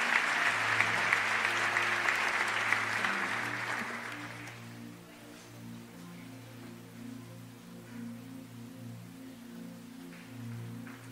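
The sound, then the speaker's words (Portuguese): An audience claps loudly and joyfully for about four seconds to invite the apostle, a dense burst of applause that fades out, while sustained keyboard chords hum underneath and carry on alone afterward. “Com alegria vamos bater as palmas e convidar apóstolo.”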